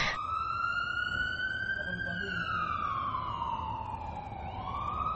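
An ambulance siren, the ambulance called for a person severely ill with a fever, wails continuously, its pitch sliding slowly down and back up, loud over a low rumbling background.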